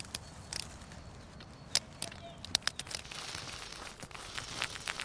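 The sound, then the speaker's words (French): A squirrel-bird shelling a pine cone: dry, irregular cracks and crinkly snaps, with sharp clicks scattered unevenly over a few seconds against a soft rustling background, no voices. “Écoutez bien, ceci est le bruit d'un écureuil-oiseau en train de décortiquer une pomme de pin.”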